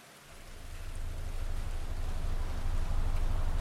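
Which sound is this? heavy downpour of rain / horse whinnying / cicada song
heavy downpour of rain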